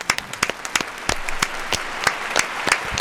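Applause from a small group, with sharp, irregular claps over a steady hiss of scattered hand-claps, holding at a moderate level throughout with no one speaking.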